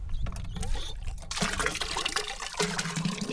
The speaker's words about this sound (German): Ohne sichtbare Anstrengung pumpt er mit der rechten Hand Wasser in einen Eimer.